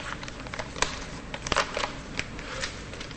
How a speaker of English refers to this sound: She unfolds the letter, smoothing out the paper.